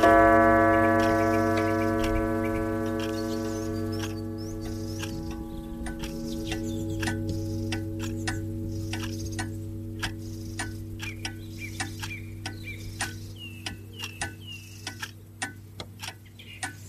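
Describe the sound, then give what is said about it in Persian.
Many clocks of all kinds from around the world tick at once, their sharp clicks overlapping in uneven, criss-crossing rhythms over a steady low hum and a sustained harmonic drone that fades early on. No one speaks. “میشه حد زد که چه تیک تاکای جور و جوری از درخت شماده شنیده میشه.”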